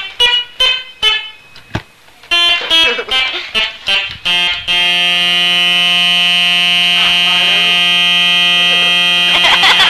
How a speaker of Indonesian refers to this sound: Kereta ya. Kereta.